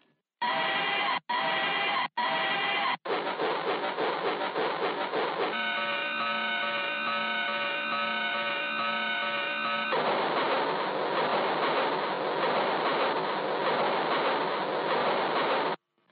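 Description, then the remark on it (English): Harsh, heavily distorted train-like noise from a 100 microfarad capacitor in series with a 1K resistor, fed into a computer line input: three short bursts, then a continuous loud clattering roar with a steady droning hum through the middle, ending abruptly. No one speaks. “The audio seems to be a very distorted series of train noises repeated every 30 seconds.”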